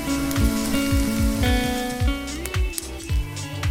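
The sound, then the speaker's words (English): Food sizzles and crackles steadily in a frying pan, a hissing spatter running under a music bed with a held tone and regular low thumps. “Just frying up some hot take headlines.”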